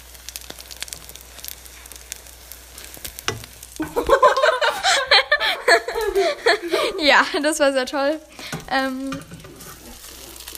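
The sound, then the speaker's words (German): French toast sizzles steadily in a frying pan, a soft crackling hiss, then laughter and a few spoken words break in over it before the sizzling continues underneath. “Und ja, das lassen wir jetzt brutzeln. Warte, ich mach mal ASMR.”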